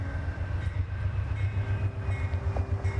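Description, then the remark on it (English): A train rumbles heavily over railroad tracks where people are smashing pennies, a dense low-frequency roar with steady rhythmic pulsing and faint metallic squeals, sustained loudly throughout with no voices. “They're both in the recording, talking, jeez, smashing pennies on the train track. We're now up on the tracks. Here come the lights.”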